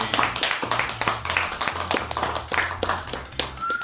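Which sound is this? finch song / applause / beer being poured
applause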